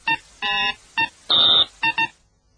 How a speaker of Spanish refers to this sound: Un pi, un pitido raro, otro pi, un zumbido y dos pi, ¿no?